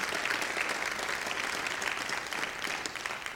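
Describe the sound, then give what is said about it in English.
A church audience breaks into sustained applause for the youth, many hands clapping densely and steadily throughout, with no voices rising above it. “Let's give them a hand clap of praise.”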